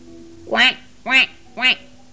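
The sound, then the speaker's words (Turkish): Three nasal duck quacks in a steady, evenly spaced run, fairly loud, each a short rising-and-falling honk, with a faint low hum underneath. “Ben etmem der ördek.”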